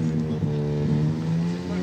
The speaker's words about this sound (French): On est au Coupe Moto Légende, c'est normal qu'il y ait des motos.